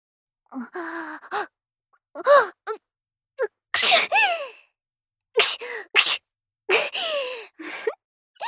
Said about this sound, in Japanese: ごめんね。顔にくしゃみして。今日薬飲み忘れたから。いっぱいくしゃみ出るかも。